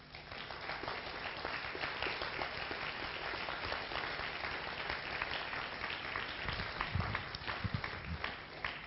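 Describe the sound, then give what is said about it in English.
An audience at the Mime Festival applauds one of the festival's artistic directors, a dense wash of many hands clapping at once that holds an even, fairly loud level throughout with no one speaking over it. “Joseph, one of the artistic directors of the Mime Festival, I think, needs to be identified, he needs to be outed, and he needs to be given a huge, huge round of applause.”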